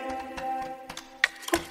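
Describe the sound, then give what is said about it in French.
Two crisp clock-like ticks land near the end, a short beat apart, standing out above soft sustained musical tones and low thumps. “Je suis seul et j'entends tic tac, tic tac, tic tac.”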